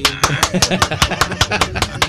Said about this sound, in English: That feels like full-on applause. Yeah. Though. Pretty much anything's louder than a golf clap.